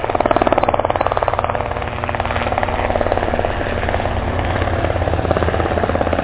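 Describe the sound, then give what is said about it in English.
A helicopter's rotor thumps steadily and rapidly, a loud, continuous chopping beat layered over a low engine drone for the whole stretch, with no voices present. “Now, can I have just a little helicopter music so our brains can reminisce for a second?”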